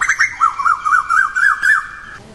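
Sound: birds chirping outdoors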